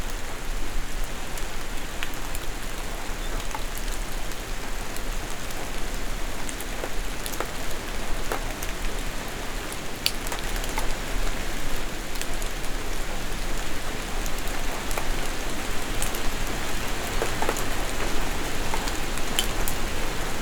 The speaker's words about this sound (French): c'est la nuit. Une légère ondée de pluie.